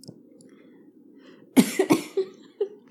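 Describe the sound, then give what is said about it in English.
A person coughs sharply several times in a quick burst, loud, after inhaling while sipping Scotch whisky, following a stretch of quiet low background hum, with a few smaller sputtering coughs trailing off. “I inhaled when I sipped. Man, what a rookie mistake.”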